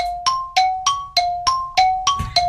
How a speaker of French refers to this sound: Aïe. Oh non. Il y a le gong qui a sonné. Il y a le gong, t'as pas donné la réponse et ensuite t'as dit quoi, Burger King, c'est ça?